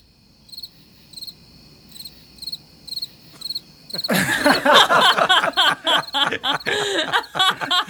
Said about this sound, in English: Can we insert crickets right there?